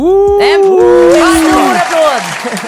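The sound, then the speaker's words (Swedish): A dog named Pelle whimpers and yelps in long, wavering, high-pitched cries, with a few sharper bark-like yips breaking in over about three seconds. “Hon älskar min brors hund Pelle. Ja, han är här.”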